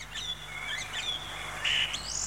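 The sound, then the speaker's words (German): A song thrush sings a run of bright, whistled phrases that rise and fall in quick succession, ending with a louder, higher flourish; heard alone, with no talking. “Singdrossel.”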